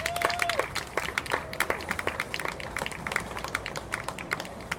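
A crowd applauds steadily, a dense patter of many hands clapping at moderate loudness for several seconds, with a faint tonal hum briefly audible early on.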